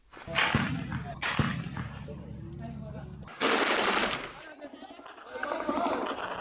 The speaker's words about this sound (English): The sound of gunfire echoes through the trees.